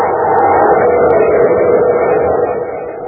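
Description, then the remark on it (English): A steady, loud roaring rumble of a spaceship coming in to land on top of a bluff, dense and droning with no clear rhythm, easing off slightly near the end. No one speaks. “It's a ship. Coming in for a landing on top of the bluff.”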